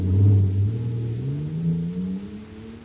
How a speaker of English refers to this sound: Wow! Listen to that fire control jet car go now. It's supercharged, that's what. Supercharged with super fuel.